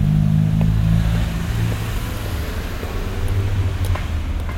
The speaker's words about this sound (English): Wait for the cars to stop, and then cross over when you can. I'll meet you on the other side.